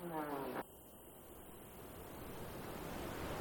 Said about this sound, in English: And the river. Listen, it's roaring. Qizil Ozan is one of the roaring rivers of Iran.